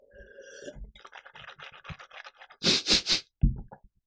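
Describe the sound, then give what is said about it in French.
Wet, sloshing mouth sounds of tap water being swished around in the mouth to make it foam, a quick rhythmic series of squelchy bursts followed by three louder gushing pulses, with no talking. “Je sais pas si vous avez entendu, mais tu sais, quand t'as la bouche pleine et que tu fais des mouvements de bouche avec ton eau, tu sais, pour bien la faire mousser”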